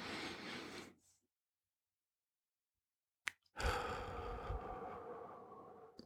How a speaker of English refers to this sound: Once you've counted to four, slowly exhale for 4 seconds and then repeat. So then it'll be again, in through the nose for a count of four, hold for a count of four, and then out for a count of four. So it'd go something like this.